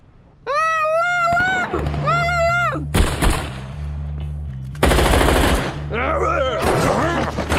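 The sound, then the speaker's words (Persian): Loud bursts of rapid machine-gun fire crackle, with a short volley and then a longer sustained burst, mixed with high wailing cries and a steady low rumble underneath. “وسط تیر و تیر اندازی با خودت چه چیز سامورایی آوردی؟”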